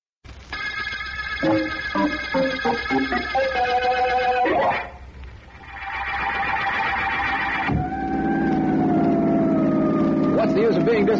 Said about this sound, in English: I think this siren is a throwback to the days when I was a kid and wanted to be a fireman